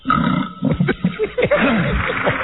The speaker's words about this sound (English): He's burping. Okay. What the hell is that? It sounds like he's on the toilet, but he burped. Okay. Wow. My first record, ladies and gentlemen. He burped. Like it's edited in there.